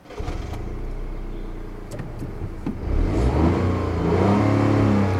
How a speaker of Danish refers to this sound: Det er ikke så tit, at man hører en bil lyde sådan nu om dage. Men det er ikke desto mindre sådan, den nye Toyota GR Yaris, den lyder, når man starter den op. Lad os slukke for motorlyden.